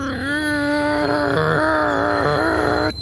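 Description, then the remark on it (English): A voice imitates the screeching brake of a minecart as the emergency brake is pulled and the cart slows on its track: a long, sustained, high-pitched nasal whine with a few brief wavering dips, held steadily for about three seconds before cutting off. “You rip the emergency brake. It begins to slow.”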